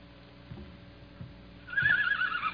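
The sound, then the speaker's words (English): A horse in an ambulance shed gives a loud, wavering whinny near the end, preceded by a few soft, evenly spaced hoof thuds in a quiet space. No one speaks. “Sick horse? No, the horse is fine.”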